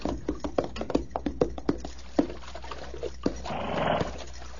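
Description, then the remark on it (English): Hooves of thirsty horses clop in an uneven series of sharp knocks, followed by a short burst of splashing, slurping water noise near the end as the horses drink warm water. “Water's warm, but at least it's wet. It's good. Yeah, let the horses at it.”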